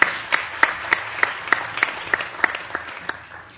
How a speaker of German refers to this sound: Ja, vielen herzlichen Dank. Ich glaube, ein Beifall ist fällig.